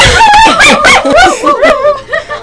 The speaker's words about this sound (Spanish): Bueno, lo veáis que hasta los perros de aquí cantan.